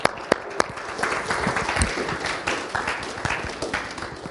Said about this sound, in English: I appreciate you guys clapped up front. You might not clap when I'm done.